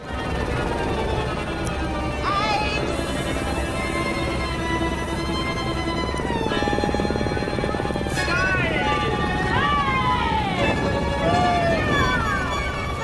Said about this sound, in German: Genau, also wirklich auch Oper, also man hört Stimmen und ja, durch dieses Rotieren da der Rotoren oder durch diese Geräusche klingt dann auch die Musik so ein bisschen tremoloartig.